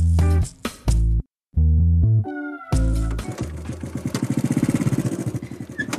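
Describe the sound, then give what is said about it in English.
After a few short tonal notes, a motorbike engine starts up and runs, fairly loud, settling into a rapid, steady throbbing pulse as the motorbike is ridden out on a ride. “decided to take us out for a ride today and he's driving now.”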